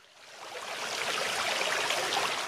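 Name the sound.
flowing spring water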